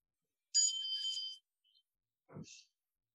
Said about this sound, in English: The bell doesn't mean to stop, it means we're celebrating. Nothing to stop doing.